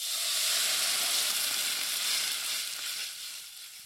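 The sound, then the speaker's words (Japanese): Broth from boiled oysters is poured into a hot pan of stir-fried garlic and ginger while making curry, with a loud, steady sizzle and hiss that stays strong throughout, easing slightly toward the end, with no voices. “ニンニク、生姜が炒まったら、ここに先ほど茹でた牡蠣の茹で汁を加えていきます。”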